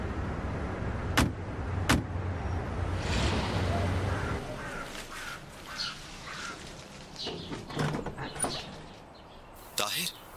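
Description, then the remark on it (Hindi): A car engine rumbles steadily as the car is driven and parked, then quiets as the vehicle settles, followed by a few sharp clicks and thumps like doors or handles, with brief voices and birds in the background. “जी ठीक है, आइए मैं पार्क करवा देता हूँ।”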